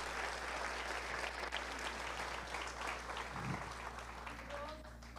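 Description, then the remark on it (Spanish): Sustained applause from an audience, given for God the eternal Father at the speaker's call. A dense crackle of many hands clapping steadily for about five seconds, tapering slightly toward the end, with faint voices mixed in. “Dele un fuerte aplauso.”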